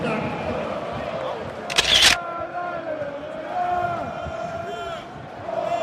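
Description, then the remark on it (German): A large crowd of football fans chants and sings in a sold-out stadium with 34,000 spectators during a Borussia versus Mainz match, a sustained, droning wall of voices with a brief sharp burst of noise partway through. “So, im Moment bespielt Borussia die Mainzer wie im Handball, schon seit einigen Minuten, so lange wie ungefähr dieser Gesang gehalten hat, aber es fehlt so die letzte zündende Idee.”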